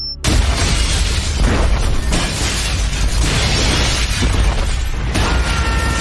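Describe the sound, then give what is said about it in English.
A massive, sustained explosion of a workshop warehouse roars with deep rumbling and crackling debris, a dense wall of noise that stays loud for several seconds with bursts of shattering and crashing throughout. “Workshop warehouse explodes.”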